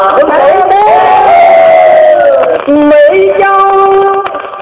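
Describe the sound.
Loud voices of many soldiers storming a citadel raise a long, drawn-out battle cry, their sustained shouts rising and falling in pitch with a brief break before surging again.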